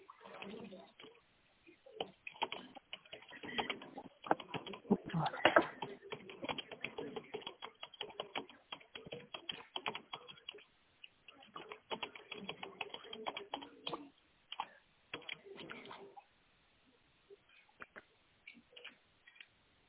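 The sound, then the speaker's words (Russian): Rapid clicking of keys on a keyboard, steady, with muffled voices murmuring in the background, then the tapping thins out and stops near the end. “Сейчас не печатают.”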